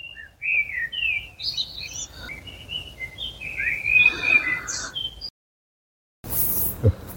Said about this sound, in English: And here they sit, listening to the bird song.